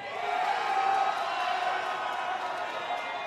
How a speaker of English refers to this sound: All right, the crowd's excited. I think we all liked this pick before it happened.